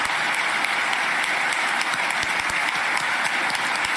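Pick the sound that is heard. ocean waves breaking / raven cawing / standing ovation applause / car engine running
standing ovation applause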